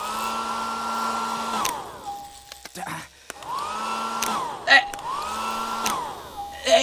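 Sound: hair dryer blowing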